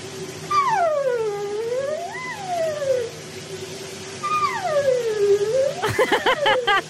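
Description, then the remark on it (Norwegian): A woman's voice imitates a dolphin with two long, swooping cries that dip and rise in pitch, then ends in a burst of quick squeaky chirps, all over a steady hiss of running shower water. “Jeg synes det høres ut som hun roper til de andre delfinene eller noe sånt.”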